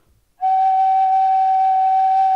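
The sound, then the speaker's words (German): After a brief silence, a single organ flute pipe sounds a steady, sustained pitched note, clear and fairly loud with a soft breathy edge. It holds unchanged, with no voices. “Also weil andere Pfeifen sehen ziemlich viel anders aus. Das zum Beispiel ist eine Flöte.”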